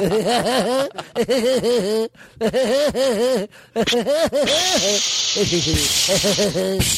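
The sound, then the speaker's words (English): A steady, hissing spray of seltzer water bursts from a bottle for a second or two, sprayed at a person who gives loud, wavering vocal yelps and groans throughout. “You doing the seltzer water?”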